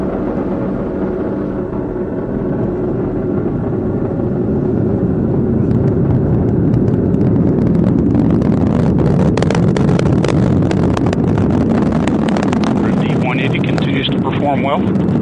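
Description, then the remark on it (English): A loud, continuous roar of an Atlas V rocket's RD-180 booster engine during launch into a clear blue sky, a deep rumbling wall of noise with crackling bursts that grows slightly fuller and harsher partway through, steady and unbroken for the whole stretch. “Booster engine continues to look very good.”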